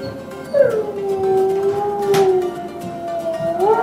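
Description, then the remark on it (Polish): A single long, drawn-out wolf howl from the Lubusz forests, steady and mournful, holding one pitch for about three seconds before lifting slightly at the end, heard alone against faint background noise. “Tutaj w naszych lasach lubuskich to nawet wilki, które w tej chwili są w takiej dość sporej ilości, no nie można tak spotkać na co dzień spacerując.”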